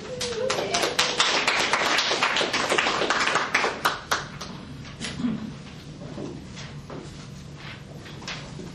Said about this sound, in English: Give him another round of applause.